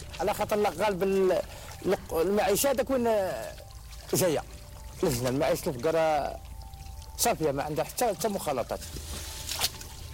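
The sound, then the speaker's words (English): Ancient groundwater seeping from the rocks pours steadily in an underground well, with a few brief splashy bursts, while a man talks over it throughout. “This ancient water is all that's left of the rivers that used to flow across the land above.”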